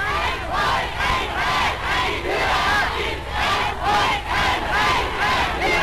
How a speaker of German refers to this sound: Hitler wird bei seinem Einmarsch in Österreich mit Jubelkundgebungen empfangen.